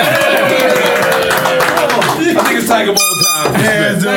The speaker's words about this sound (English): Give a round of applause for that.